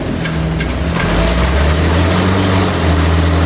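The engine of a roof-demolishing machine roars at full throttle, a loud, steady, buzzing drone that climbs slightly in pitch early on and then holds strained and unbroken throughout, with no voices.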